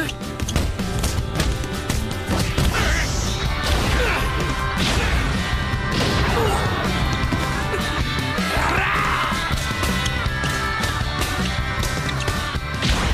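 A rapid flurry of heavy boxing punches thuds against a boxer's body during a bout, impact after impact in a dense, loud barrage, with shouts and strained yells mixed in throughout.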